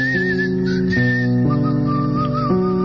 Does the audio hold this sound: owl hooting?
no